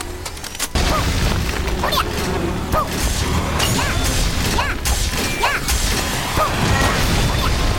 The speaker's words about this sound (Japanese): やばいよやばいよ。爆発したぞ。なんか。